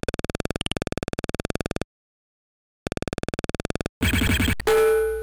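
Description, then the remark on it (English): A steady run of rapid ticking pulses stops, pauses and resumes, then a sharp gunshot-like burst is followed by a loud, ringing metallic clang as the shot strikes a steel pot used as a target. “The target is a steel pot.”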